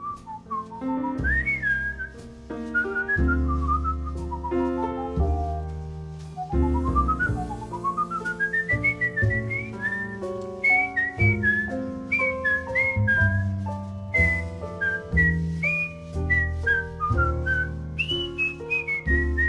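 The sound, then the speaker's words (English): A person whistles a flowing melody on a music record, with sliding, bright notes, clear, over a steady accompaniment of bass and chords that fills the whole passage. “So is that you on the record, …? Is that you whistling? Yes. Yes, it is.”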